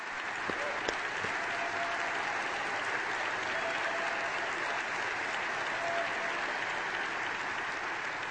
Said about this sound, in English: Yesterday at the White House, President Trump again made history. He formally recognized Israel's sovereignty over the Golan Heights. Now that deserves enormous applause.